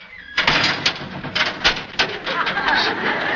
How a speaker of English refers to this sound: And that sound was done by closing a specially built door constructed exactly like a cell door.